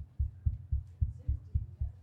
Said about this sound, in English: The old heartbeat is back.